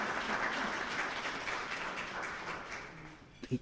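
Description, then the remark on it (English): A crowd at a City Club of Eugene event applauds the panel speakers. A dense wash of many hands clapping holds steadily for several seconds and then thins out, with a few last claps at the end. “Let's give a round of applause to the speakers, and thanks some beavers for coming into town.”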